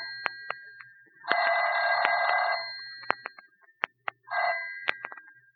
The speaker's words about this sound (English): Don't answer that phone, Mike. Sir? Let it ring.